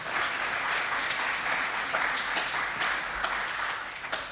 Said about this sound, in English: Well, that's a pretty big deal, isn't it? You can give them a clap. 60 years of marriage.